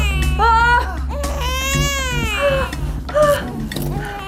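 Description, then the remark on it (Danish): A newborn baby cries just after being born, in several high, wavering wails, each rising and falling in pitch, loud and continuous over a low steady hum. “Tillykke. Det blev en lille håndværker.”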